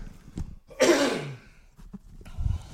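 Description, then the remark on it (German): A single loud, rasping throat clearing bursts out for about half a second, then trails off into a lower growl, with soft breathy sounds before and after. “Ich muss mich mal eben räuspern, einen Augenblick.”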